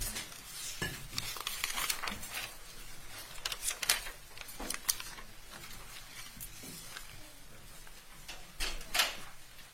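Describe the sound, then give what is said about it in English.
A courtroom door opens and closes as the court rises, amid a run of sharp clicks, knocks and rustling handling noises, moderately loud, with a steady background hiss and no talking. “All rise. The door is exited.”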